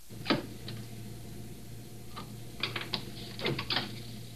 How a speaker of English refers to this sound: Now he opens the gate, exposing the heads. He marks the spot for the cut. You'll hear him dropping the pencil.